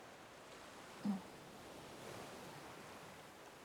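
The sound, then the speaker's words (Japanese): A soft, steady wash of ocean surf on the shore, with a gentle swell rising midway and no voices present. “たまに会ったら一緒に歩いたり、こんな風に海眺めたりするだけで、それ以外に何かするわけでもないんだし。”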